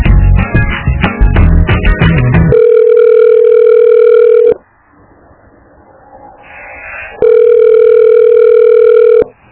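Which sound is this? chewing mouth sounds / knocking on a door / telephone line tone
telephone line tone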